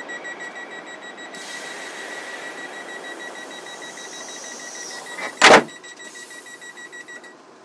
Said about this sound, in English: Whistling for this train. So actually, that was pretty good timing.